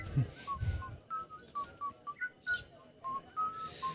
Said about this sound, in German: Wenn der Kannibale pfeift, kommt er näher.